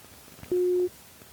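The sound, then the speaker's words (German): A single steady electronic call tone as someone calls a mobile phone, one mid-pitched beep lasting about a third of a second, sounding clear and prominent over a faint, quiet background. “Ich rufe dich jetzt mal auf dem Handy an.”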